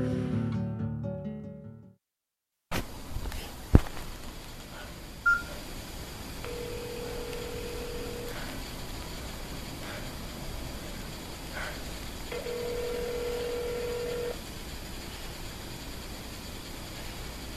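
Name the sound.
telephone dialing tones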